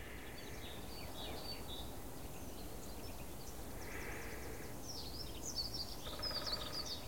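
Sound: fast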